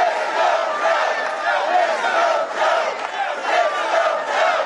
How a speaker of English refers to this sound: Those in attendance appeared to be excited for Biden's candidacy, with chance of 4 more years, and "Let's go, Joe" shouted in the room.